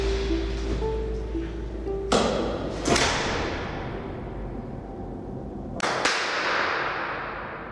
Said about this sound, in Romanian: Așa sună o aulă universitară ca cele ale Universității Agrare, adică o aulă pustie.